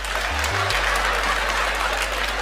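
An audience claps in a dense, steady burst of applause that holds at an even loudness from start to finish, with no voices over it and a faint low hum underneath.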